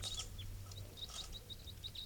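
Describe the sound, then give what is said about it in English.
Soft calls of one wild bird: a string of about ten thin, high-pitched chirps repeating at a quick, uneven pace over a low, steady background hum, with no voices. “So recording, these are the calls of one of the wild birds.”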